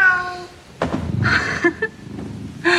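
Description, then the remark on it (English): A cat meows several times: a drawn-out call at the start, then shorter mews, with a soft thump and faint shuffling noises between them. “Hello, aren't you a proper fellow? That's a pounce. Very handsome.”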